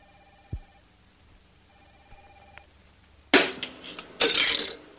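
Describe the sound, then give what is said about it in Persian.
A phone rings twice in steady tonal bursts with a pause between, then a loud, noisy clatter and rustle like a line connecting or a handset being picked up, as a telephone call is played on air. No one speaks. “یه تلفن آماده پخش با هم گوش کنیم.”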